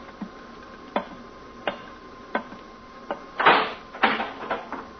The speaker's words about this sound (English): Earthman, you will rise from your seat and open that door.